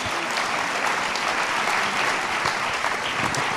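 A crowd claps steadily in a dense, continuous round of applause, loud and even throughout with no voices standing out.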